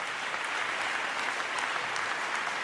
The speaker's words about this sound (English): And when the delegates realize what's happening, they begin to applaud for him, willing him on.